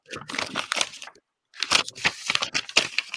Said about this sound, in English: All this paper shuffling.